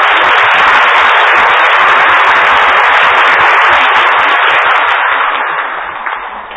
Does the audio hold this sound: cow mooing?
no